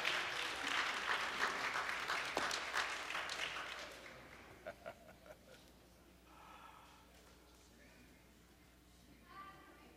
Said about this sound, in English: I am sure you are applauding them because you are their fans and not just because they are leaving.